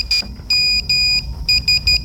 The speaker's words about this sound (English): Just by the way, a little tidbit of information. That means SMS in Morse code. Genuinely does.